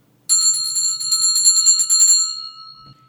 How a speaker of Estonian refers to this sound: siis me alustame seda saadet kooli kella helinaga